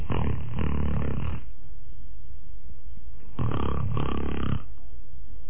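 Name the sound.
storyteller imitating loud snoring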